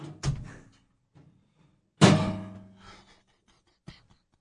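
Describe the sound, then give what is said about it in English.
A door is shoved and wedged open to prop it: a solid thunk, then a loud heavy bang with a brief ringing rattle, and a small final knock, with no talking. “Well, you want to help him prop open the door?”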